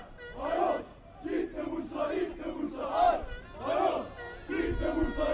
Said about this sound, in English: Around the corner, a crowd of Fenerbahçe football fans are taunting the team bus of Bursaspor, their opponents of the day.